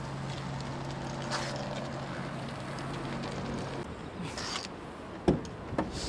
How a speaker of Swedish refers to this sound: Det hörs nästan inget alls när bilen startas. Det som hörs det är bilarna på vägen strax in till. Först när bilen börjar rulla så hörs ett visst ljud från däcken.